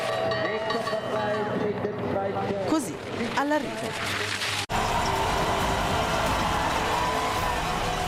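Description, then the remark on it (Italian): Dense, continuous clanging of many cowbells, as normally heard during a ski downhill race, at the race finish, with a voice speaking over them, then a sudden switch to a loud, steady roar of crowd noise and cheering. “I campanacci.”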